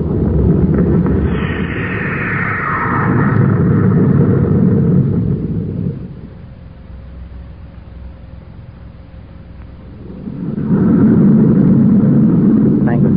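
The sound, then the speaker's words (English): A heavy, rumbling rocket blast-off roar fills the first six seconds, drops to a low steady hum with a faint whine, then surges back loud near the end. “Have stand by for blast off.”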